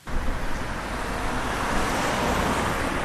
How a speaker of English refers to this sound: I get stuck in traffic for 10 minutes as I drive into Adair. Locally, people say that's not bad, but it's something that they talk about.